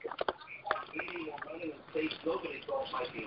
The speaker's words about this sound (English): Hold on. Somebody's listening to the radio, obviously. Everybody be real quiet.